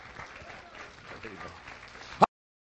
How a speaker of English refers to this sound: Let's give him a good hand clap of praise all over the house this morning. Amen.